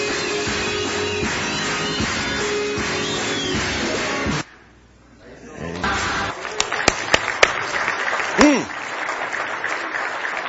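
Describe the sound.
An audience claps loudly and steadily for several seconds, breaks off abruptly into near silence, then returns with scattered, sharper individual claps mixed with voices and a brief rising shout.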